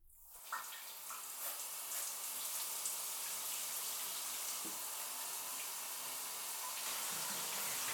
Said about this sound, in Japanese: じゃあ、まずはシャワーを温めてくね。